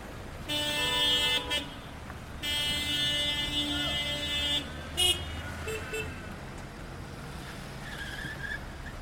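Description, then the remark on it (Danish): A couple of cars drive through the gate into a refugee camp, on a lane barely wide enough for two cars to pass, with a low engine rumble, sounding two long, steady horn blasts followed by a few short toots before fading to a quieter hum. “Et par biler kører gennem porten og ind i lejren.”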